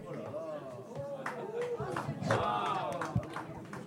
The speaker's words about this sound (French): Bonsoir, bonsoir, bonsoir. Commencez pas à applaudir, j'ai pas encore chanté. Vous en faites pas, je chanterai pas.